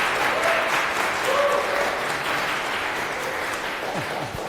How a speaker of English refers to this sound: So a round of applause for our speakers, please, and have a good time with this talk.